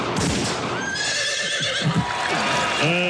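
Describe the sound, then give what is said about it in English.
A horse whinnies loudly and shrilly, its high, wavering neigh rising and falling against a busy, noisy background, with a second shorter whinny near the end. “A horse breaks a leg”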